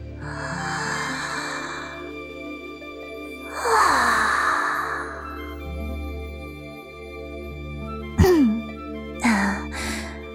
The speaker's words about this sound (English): How about I take you through a getting up exercise? Ready? First, take a deep breath in, like so.